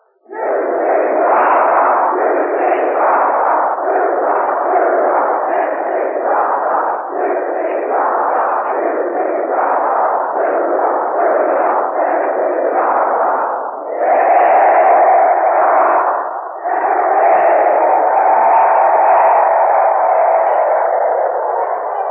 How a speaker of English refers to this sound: The Box Poppers who will conduct tonight's interviews have just come upon the stage, and here is a cheer from the students of the University of Tennessee.